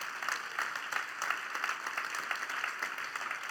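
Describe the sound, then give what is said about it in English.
An audience claps together in a steady, dense wash of applause that holds at an even, moderate level without pause for the whole stretch, with no voices over it. “Now, if I was sitting out there, I would begin a clap and hope others would join me, because that's just good news.”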